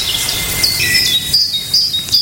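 A great tit sings a few repeated high, thin whistled notes, set against a steady hissing chorus of insects, with no talking.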